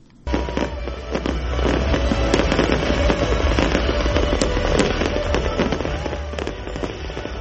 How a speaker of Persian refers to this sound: و مردم در سرتاسر جهان از سال 2008 میلادی با آتش‌بازی و دیگر مراسم استقبال کردند.